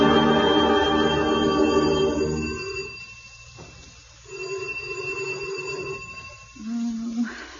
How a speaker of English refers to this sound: Wiley won't answer the doorbell.